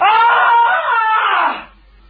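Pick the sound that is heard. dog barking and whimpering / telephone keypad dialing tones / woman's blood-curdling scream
woman's blood-curdling scream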